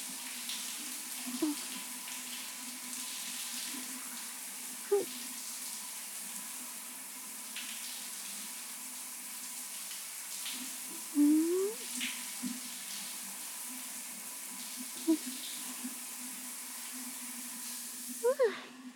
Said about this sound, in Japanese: まあ、お酒のシュワシュワが待っているから、早いところ洗い流しちゃいましょうか。